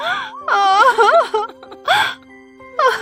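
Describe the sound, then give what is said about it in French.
A voice cries and whimpers in wavering, sobbing bursts, three loud outbursts with short gaps between them, over a faint steady tone in the background. “Oh, ne pleure pas, ça va aller.”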